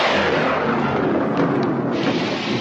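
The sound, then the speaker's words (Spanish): In a scene from the film Young Frankenstein, a loud, rumbling thunderclap rolls over a sudden downpour of heavy rain, the noise a dense, steady roar throughout with no voices. “Memorable escena del jovencito Frankenstein, o Frankenstein, como dice él, y de Igor, que demuestran que un chaparrón puntual no hay quien lo adivine.”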